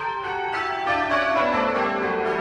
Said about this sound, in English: You may hear church bells all the time, but 9 times out of 10, you're probably just hearing one bell. What you're going to hear is 12 bells ringing, and they're ringing in a very, very different way.